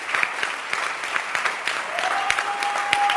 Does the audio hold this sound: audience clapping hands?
yes